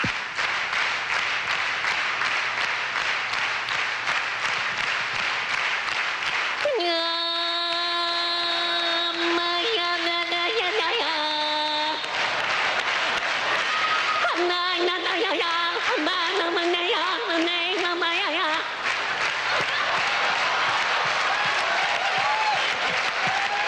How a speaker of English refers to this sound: Come on, clap your hands. We'll do one of the songs. Just like that. Ha. Keep it going.